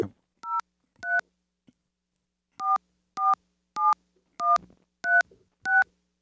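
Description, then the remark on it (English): A sequence of eight short touch-tone telephone dialing beeps as a cell phone number is dialed, two quick ones, a pause, then six in a steady rhythm, each a clear two-note tone, fairly loud with no talking. “Give me a dial tone and let's dial.”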